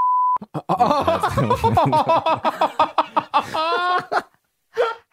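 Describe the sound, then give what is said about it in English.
A short, steady electronic censor bleep sounds at the very start, covering a swear word, then gives way to animated talking and chuckling voices, with a brief laugh near the end. “Are we beeping this?”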